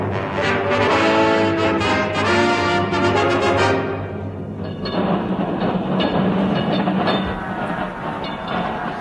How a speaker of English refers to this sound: And as I stand here on the great pavement, there goes the last tram. That was the last tram.